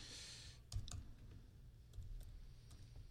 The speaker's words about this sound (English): It's a little disconcerting to see that keyboard move like that as I type, but I guess we'll get used to that. At least there's some travel on the key.